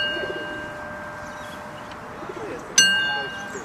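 A small toy train bell, rung for a family's daughters, gives a single bright ding near the end, its metallic ring lingering and fading over a low, murmuring background.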